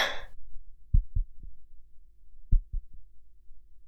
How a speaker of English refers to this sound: Listening to your heartbeat while you're just deep inside me.